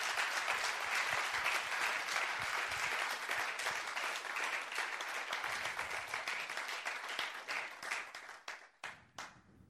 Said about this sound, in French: Familia, si le crees al Señor, dale un aplauso. Famille, si tu crois au Seigneur, applaudis très fort le Seigneur. Porque el Señor es glorioso. Parce que le Seigneur est glorieux.